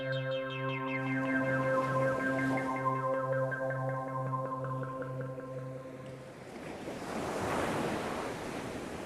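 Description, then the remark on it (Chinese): A steady, pulsing musical drone fades out, giving way to the broad rushing wash of sea waves breaking on the seashore, swelling loudly near the end with a windy hiss of sea breeze. “大海到了，第一次看到大海，狐狸兴奋地蹦了起来，狼也好久没有痛痛快快地吸过海风了。”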